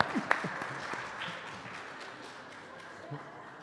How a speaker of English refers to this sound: Let's give him a round of applause for that reading.